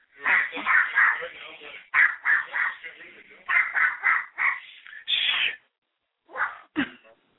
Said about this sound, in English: All right. So I think we should end the show on that, as the dog in the background barks.